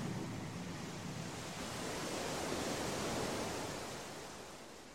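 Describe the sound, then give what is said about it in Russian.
Ocean waves wash steadily in a broad, hissing roar that swells toward the middle and eases off at the end, continuous, with no voices. “К счастью, крокодил посадил их на свою могучую широкую спину и поплыл по волнам прямо к берегу.”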